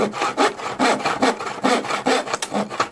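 Someone carves a wooden toy at night with steady, rhythmic scraping strokes, roughly seven dry back-and-forth rasps in quick succession, fairly loud and heard alone without any voices.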